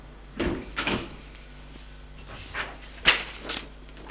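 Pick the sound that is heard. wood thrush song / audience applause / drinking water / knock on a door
knock on a door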